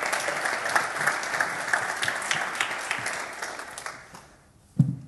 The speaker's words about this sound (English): Obviously, we're not going to whoop and cheer, but why don't we just have a little polite ripple of applause